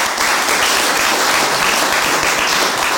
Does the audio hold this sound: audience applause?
yes